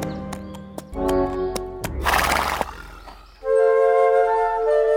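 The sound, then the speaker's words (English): Horse hooves clip-clop in a quick series of sharp knocks as a man rides a horse through the woods, followed by a brief noisy rush and then a loud, drawn-out horse whinny. No one speaks. “As she hides, the girl hears a horse.”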